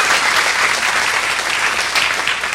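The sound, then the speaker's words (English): An audience claps steadily, a dense, even wash of many hands with no pauses, holding a constant loudness throughout, giving a hand to a man walking after a complicated surgery. “He started walking faster when y'all started clapping, which either meant he was embarrassed or we just encouraged him.”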